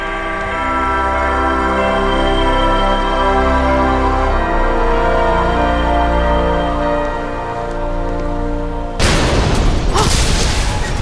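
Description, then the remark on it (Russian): A heavy door slams shut with one loud, booming crash that rumbles on briefly, following a long stretch of steady, low, humming tones. “За сегодня я уже много раз слышала, как эти двери захлопываются, и каждый раз я страшно пугаюсь.”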